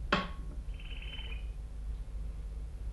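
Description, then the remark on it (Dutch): A small bird sings a short, buzzy high-pitched trill lasting under a second, just after a sharp click, over a steady low background rumble. “Wat zingt die leuk, hè, toetertje?”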